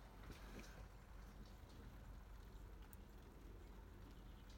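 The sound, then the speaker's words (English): Rain falls steadily outside, a soft continuous hiss with a low rumble beneath it, heard faintly, with no voices; it has been raining all day. “Don't know if you can hear the rain.”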